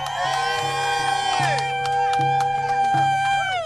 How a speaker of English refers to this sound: Some of those arrested were walked down the hill in flex cuffs. It felt like a human tunnel at a basketball game with people clapping and cheering.